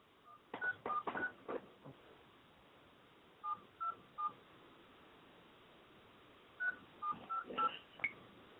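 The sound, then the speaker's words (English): A series of short telephone keypad dialing tones in three quick bursts separated by pauses, with a faint background hiss and a few clicks, moderately loud. “Okay, call on your phone.”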